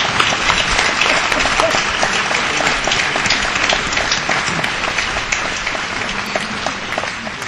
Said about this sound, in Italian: Per lui un grande applauso chiedo, per lui. Egy tapsot neki.